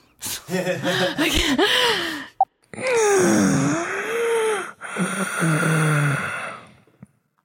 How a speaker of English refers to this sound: That was some good strained breathing. Wow. Yeah, that wasn't. I was like, all right, you're not in the room. I'm by myself. So, it's, oof, yeah, it's not awkward at all doing strenuous breathing.